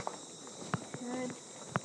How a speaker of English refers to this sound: Some very interesting crickets.